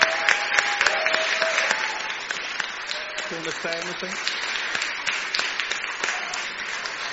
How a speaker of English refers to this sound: I think we ought to give a huge clap.